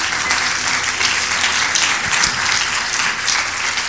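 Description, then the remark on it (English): A church audience claps hands after a prayer during a service, a sustained, dense burst of applause, steady and fairly loud throughout with no voices rising above it. “It's okay, go ahead and clap your hands.”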